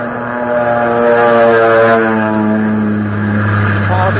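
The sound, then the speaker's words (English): A low-flying airplane passes overhead at about 125 miles an hour at an altitude of only 200 feet, dropping a wire by small parachute for an Army field telephone crew: a loud, steady engine drone with a deep, buzzing harmonic hum that holds throughout, its pitch shifting slightly near the end. “Over us at about 125 miles an hour at an altitude of only 200 feet.”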